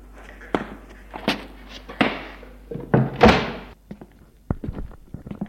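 household object, door opening

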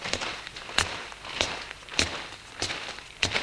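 human body sound, footsteps going down stairs

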